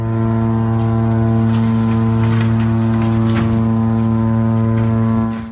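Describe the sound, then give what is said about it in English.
The MSC Opera cruise ship's horn blares in Venice, Italy, as the captain warns people to get out of the way before the liner crashes into a small tourist boat and the wharf: one long, unbroken blast, a deep steady tone with strong harmonics, loud throughout, with faint crowd noise and shouts underneath. “On this video footage, you can hear the ship's horn as the captain tries to warn people to get out of the way.”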